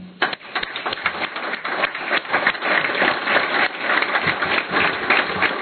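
A table applause at a council meeting, thanking a departing member: a sustained clatter of many hands knocking and drumming on tables, dense and irregular, swelling into a steady rumbling rattle that keeps going for several seconds with no talking.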